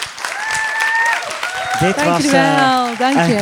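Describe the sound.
Steady audience applause fills the whole clip, mixed with a sustained whistle near the start and then rising, excited voices whooping and cheering over the clapping.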